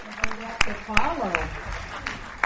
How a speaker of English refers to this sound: The theater erupted in applause when Riddles took the stage.